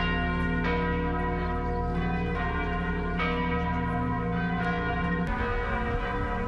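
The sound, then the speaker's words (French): Large cathedral church bells in France ring continuously on Wednesday 17 April to mark 48 hours since the cathedral fire began. Their deep, overlapping tones layer into a loud, sustained peal with fresh strikes every second or so and no voices. “Responsable sonne cloche toute cathédrale en France, mercredi 17 avril là, pour te marquer 48 heures depuis que le feu a commencé.”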